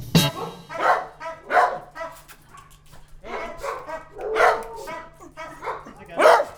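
Several dogs bark repeatedly in short, overlapping bursts, with occasional yips and whimpers, a kennel full of dogs at an SPA animal shelter in Tilloy-les-Mauflaines near Arras, under a steady low hum.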